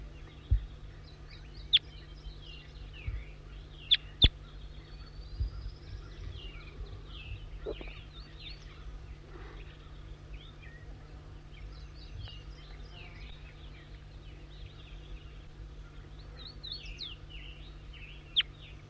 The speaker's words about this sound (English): Stop. Wild bird again.